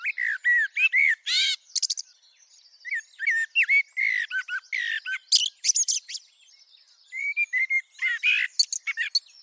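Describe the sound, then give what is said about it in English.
A blackbird sings close by in a garden in repeated bursts, three to five rich fluty notes per verse giving way to rapid, scratchy high twitters at the ends of phrases, with short pauses between verses. “And then what really helps distinguish the blackbird is after it's done three or four or five fluty notes at the end of its verse, it then switches to something quite different, what I call the terminal twiddle at the end of its song verse.”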